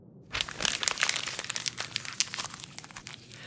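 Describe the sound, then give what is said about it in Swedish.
A paper note is crumpled for a few seconds, a dense run of crisp, crackling crinkles that rise quickly, then thin out into scattered sharper crackles with no voices. “Papperstussen hade knycklats samman och vecklats ut irriterande många gånger nu.”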